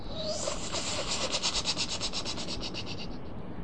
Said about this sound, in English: A rattlesnake rattles.